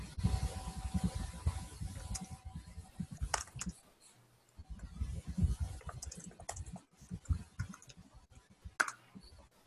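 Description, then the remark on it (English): Rapid, irregular clacking of keys on a computer keyboard as someone types a comment, in two bursts separated by a brief pause, with occasional sharper clicks and no talking. “Are you typing a comment or should I? Go ahead, type a comment.”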